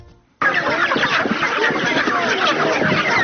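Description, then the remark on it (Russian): A dense, busy chorus of many live chickens clucking and squawking at once, loud, starting abruptly after a brief quiet moment and continuing steadily throughout, on the square in front of the village council in Novotroitsk, where the International Red Cross delivered them. “Международный Красный Крест привез в поселок живых кур.”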